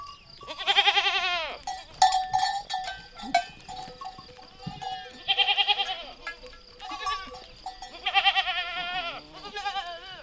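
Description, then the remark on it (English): Shepherds' livestock bells clink and ring irregularly amid a flock, with goats bleating loudly and repeatedly in wavering calls; no one speaks. “They would recognize their flocks, and it allowed them to find a lost sheep or goat in the mountain.”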